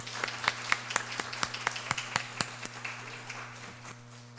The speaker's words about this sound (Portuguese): Eu gostaria que vocês, né, dessem uma salva de palmas linda